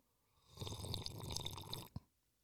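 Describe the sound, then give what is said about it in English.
Someone takes an audible sip of a drink, a wet slurping sound lasting over a second, ending in a short, sharp gulp. No one speaks. “Cheers to your guys' Sunday, whatever day you're watching this. Let's have a sip.”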